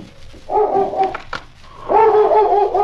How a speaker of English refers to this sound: It was about 1 o'clock in the morning when both lawmen were awakened by King, who'd been sleeping in the snow in front of the door. I'll see why King's barking.